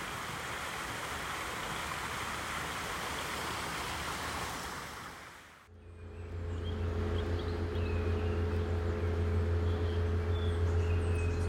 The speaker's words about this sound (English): There's some action going on in the field to our left now. Might be able to hear the whirring of a tractor engine in the background. It sounds like they're ready to muck spread ahead of fertilising the fields for the summer and spring season.